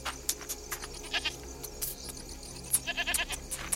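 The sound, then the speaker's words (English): A female goat bleats several times in quick, uneven bursts as she balks at crossing a gate's threshold and lowers her head, the nasal cries fairly loud over a faint background hiss, with no one speaking. “The goat bulks at crossing the threshold. She lowers her head and bleats, tensing to flee if the old man tries to grab her.”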